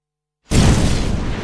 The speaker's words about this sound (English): Then it happens. The explosion. It takes me ages to understand. The sound is deafening.